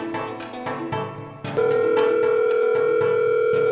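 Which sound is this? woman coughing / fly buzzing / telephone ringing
telephone ringing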